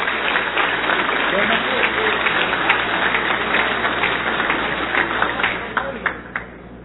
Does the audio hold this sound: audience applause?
yes